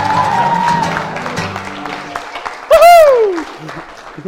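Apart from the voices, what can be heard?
audience clapping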